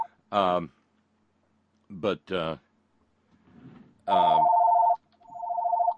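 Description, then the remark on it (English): A telephone rings with a steady electronic tone, sounding twice in quick succession near the end, following brief bursts of a voice talking. “I've got to turn the phone off.”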